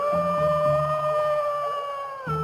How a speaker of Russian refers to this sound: Вот вошел волк Ваня в медвежий лес. Идет, воет.